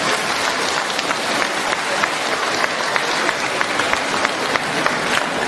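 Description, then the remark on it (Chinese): An audience applauds steadily for several seconds to thank Master Lu Junhong at the close of a question-and-answer session. The applause is a dense wash of many hands clapping at an even, fairly loud level, with no voices over it. “让我们再次用掌声感谢大慈大悲的卢军宏台长。”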